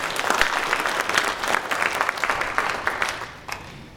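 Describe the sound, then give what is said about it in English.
An audience bursts into steady applause in praise of God, many hands clapping in a dense, even wash that holds strong for several seconds before starting to thin out near the end. “And it's, go ahead, clap, praise God.”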